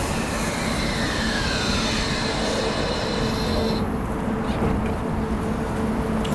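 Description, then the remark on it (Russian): A new low-floor tram built by the Croatian maker Končar rumbles steadily past in Liepāja, a dense low roar with thin, high-pitched squeals from the wheels drifting over it before fading near the end. No one speaks. “Горожанам новые трамваи нравятся, хотя некоторые считают их слишком шумными.”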